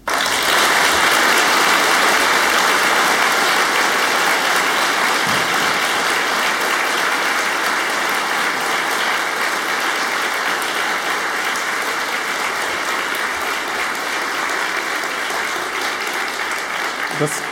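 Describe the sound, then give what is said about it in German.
Loud, sustained applause from a large crowd fills the whole stretch, a dense wash of clapping that stays steady without any voices breaking through. “Und dafür müsste man mal richtig laut klatschen.”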